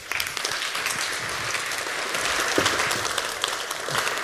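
A crowd applauds steadily, a dense wash of many hands clapping at an even, sustained loudness throughout, with no voices breaking through.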